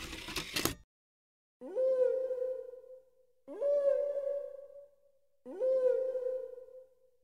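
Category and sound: animal, whale song recording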